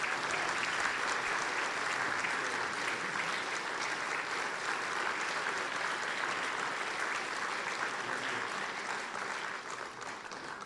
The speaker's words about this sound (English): Would you give a hand clap and praise God for the man of God?